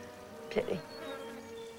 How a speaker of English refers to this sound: They nearly had you. Excuse me? Our little friends, the bees. They almost did you in.